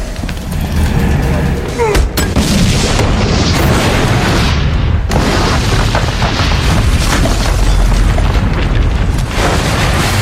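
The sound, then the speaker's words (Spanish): A loud, dense barrage of cinematic gunfire and booming explosions rages continuously, with sharper blasts punching through every few seconds and no quiet gaps. “Pero con el aleteo de estos sucios bichos, inician los disparos.”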